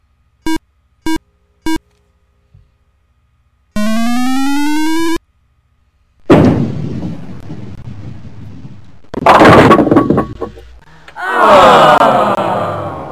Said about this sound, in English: The ball hit inside the mark. Your ball hit two lanes to the right of the mark. Six pins were knocked down with your first ball.